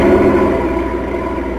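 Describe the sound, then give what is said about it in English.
An approaching truck engine rumbles steadily, a deep, loud drone with layered low tones that holds fairly even and eases slightly toward the end, with no voices. “Stop! What? Truck.”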